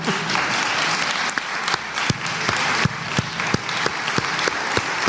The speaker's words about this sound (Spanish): Y agradezco en nombre de Estela Medina, que la veo ahí, para la que pido un gran aplauso.